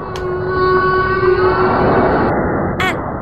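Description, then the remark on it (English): A whale's long, moaning song with steady tonal calls over a low rumbling wash, ending in a brief rising whoop, loud. “And whales.”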